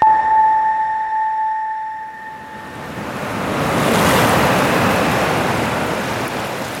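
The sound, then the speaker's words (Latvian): A sustained electronic tone fades out over the first few seconds as steady surf swells in: sea waves rolling and breaking on the beach at Asari, Jūrmala, wind rushing over them, loud, without speech. “Te blakus jūras krastam, Priežu ielokā, atrodas 4-stāvu māja ar lieliem stiklotiem logiem, kas paver skatu uz pludmali.”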